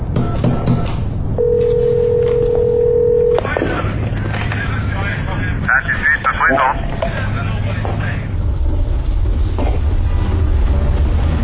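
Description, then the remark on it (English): A steady telephone dial tone hums for about two seconds, then short electronic dialing beeps follow, over a constant low background rumble with faint voices; a newly hooked-up phone. “It's working. I hooked up the phone!”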